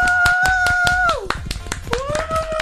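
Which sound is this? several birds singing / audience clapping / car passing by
audience clapping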